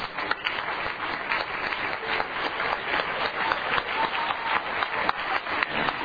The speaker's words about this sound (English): Oh, let's clap our hands to the Lord tonight.